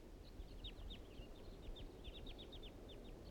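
Wild birds call in a quick, irregular stream of short, high chirps and tweets that continue throughout, heard over a steady low rushing background noise, as they fly around a clearing near a bird-trapping site.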